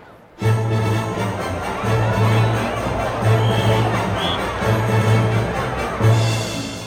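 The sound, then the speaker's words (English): A festival crowd in Paris fills the air with a dense, steady hubbub of overlapping voices, while low droning tones swell and fade in a slow, repeating pulse beneath the chatter; some in the crowd watch a young woman dancing and singing. “The other people are also having a good time at the festival.”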